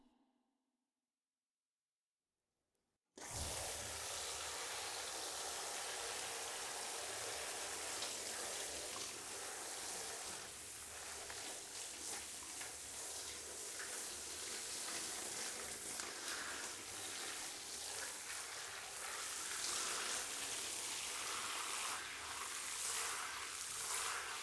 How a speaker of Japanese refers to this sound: まずぬるめのお湯でたっぷり濡らしていきます。温度の調節もできるので、冷たかったり暑かったりしたら言ってください。ではシャワーでお湯をかけていきますね。